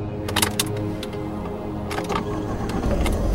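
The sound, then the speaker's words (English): A large SUV's engine, just started, rumbles at a steady idle, with a few sharp mechanical clicks and rattles early on. No one speaks. “As the best car bombs require a certain automotive knowledge, and then some, I had a large SUV up and purring like a cat.”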